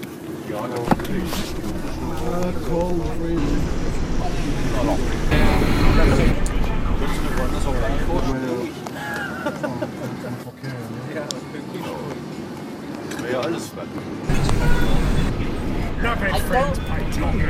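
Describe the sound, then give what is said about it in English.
Steady low road rumble from inside a moving car that goes over a big bump, loud and continuous, easing for a few seconds midway before returning, with people talking over it throughout. “car took a big bump. Did you see that?”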